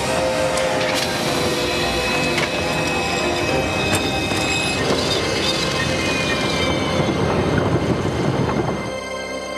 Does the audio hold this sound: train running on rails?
yes